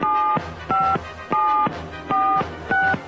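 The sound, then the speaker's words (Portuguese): Five keypad tones from a phone being dialed to call a doctor, each a short, steady two-pitch beep, pressed at a brisk, even pace with no one talking. “Só um minuto que eu já vou ligar pra ele.”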